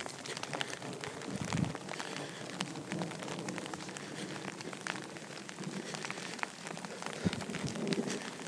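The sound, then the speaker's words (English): Steady rain patters on the top of a jacket hood during a walk in a thunderstorm passing directly overhead, a dense crackle of quick taps with a couple of low thunder rumbles underneath. No one speaks. “You may also be able to hear the rain tapping on the top of my jacket.”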